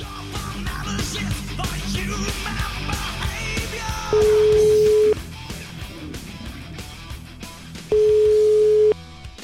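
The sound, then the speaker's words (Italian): A telephone ringback tone sounds twice while a call is placed to a man: two steady, clear one-second tones several seconds apart, following a stretch of busy, dense background sound. “Io proverei a fare una telefonatina a questo signore”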